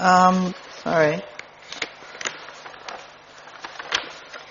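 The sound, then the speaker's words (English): Large sheets of paper rustle and crinkle in a series of quick, uneven bursts, following a couple of short vocal murmurs at the start. “These are lovely big sheets of paper”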